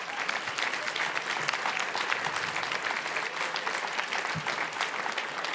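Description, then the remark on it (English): An audience at a live event applauds steadily, a dense wash of many hands clapping at an even loudness throughout, with no voices rising above it. “That you had to applaud for that common sense tells you how bad things are.”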